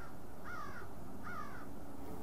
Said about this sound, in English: The most interesting thing, of course, is the birds at this time of the day. We can hear them in all directions.